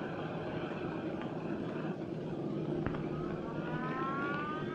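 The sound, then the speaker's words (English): A siren far below an observation deck wails faintly, its tone gliding upward near the end, over a steady low rumble of background noise with no one speaking. “Barely noticing the siren far below, he straightens his jacket anxiously.”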